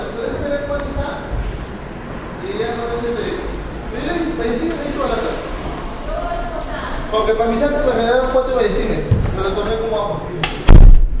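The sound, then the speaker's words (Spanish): People talk steadily in the background, then near the end a door is shut with a single loud, heavy thud. “Voy a cerrar la puerta.”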